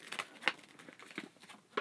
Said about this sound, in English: If you don't stop messing with that piece of paper.